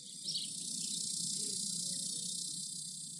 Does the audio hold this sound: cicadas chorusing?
yes